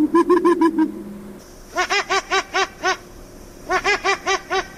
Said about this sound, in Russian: Или вас счастливым сделали вот эти совы?